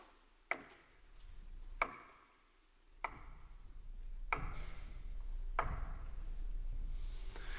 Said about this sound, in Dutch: En wat doet zo'n herder dan wanneer hij door zo'n smalle gang loopt? Waar de schaduwen misschien van de rotsen over hen heen vallen? Die herder, die tikt met zijn staf.